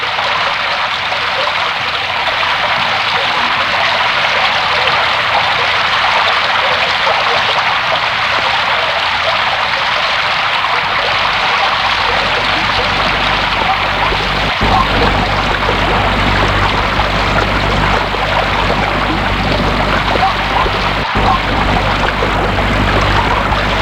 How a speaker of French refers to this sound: La surface du lac était troublée par la pluie.